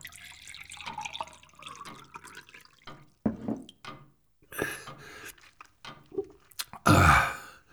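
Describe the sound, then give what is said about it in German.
Water runs and splashes into a glass in several short bursts, with faint dripping between. The final pour is the loudest. “Ein Glas Wasser. Ja, natürlich. Einen Moment bitte.”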